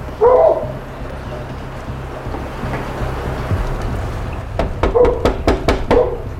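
dog barking

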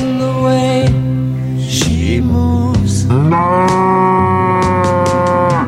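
cow mooing

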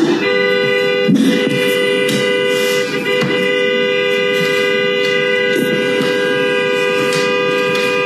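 car horn honking repeatedly

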